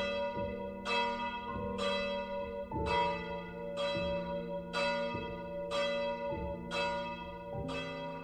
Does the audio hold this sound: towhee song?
no